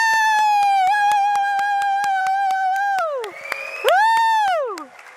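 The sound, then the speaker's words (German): A lively audience, asked to cheer, cheers with one loud, sustained high-pitched whoop that drops away and then swells again over steady rapid clapping, lasting a few seconds. “Könnt ihr eigentlich so richtig jubeln? Lasst uns mal, ja genau.”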